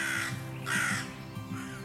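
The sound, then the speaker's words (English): A crow caws two or three times in harsh, raspy bursts, clear, with short pauses between calls and a faint steady hum underneath. “Bigger birds like crows.”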